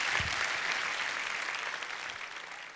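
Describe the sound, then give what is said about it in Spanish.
An audience at Iglesia La Roca y Alcance Mundial applauds the Lord at the close of a sermon, a dense, crackling wash of many hands clapping at once that holds a fairly even level and fades slightly toward the end. “Si Dios salvó, da un aplauso al Señor, que Él se lo merece.”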